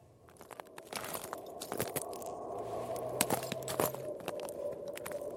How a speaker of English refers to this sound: I'm treading, gingerly, across the frozen ice on the middle of Lake Inari. We've travelled about 300 kilometres into the Arctic Circle, to the wild, empty landscape in the far north of Finland.